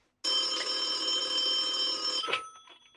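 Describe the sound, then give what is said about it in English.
A telephone rings on an outgoing call with one long, continuous electric bell trill lasting about two seconds, loud, then stops abruptly and leaves a short fading clatter. “Yes, and if you can hold a bottle, you can dial a phone. Give her a call.”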